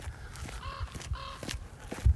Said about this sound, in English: I think the crow agrees.